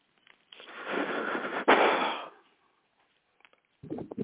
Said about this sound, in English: Sorry, no. Somebody's breathing, man. Say, when people hear that breathing, it's like a blow dryer in the ear. I don't mean to do too much heavy panting. I don't want this to come off like an obscene phone call.